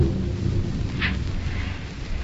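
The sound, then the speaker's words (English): A heavy Atlantic Ocean wave crashes against a rolling ship during a storm with a deep, roaring rumble, a brief hissing splash bursting out midway before the churning water settles into a steady, loud wash. “Well, I think that was half the Atlantic Ocean.”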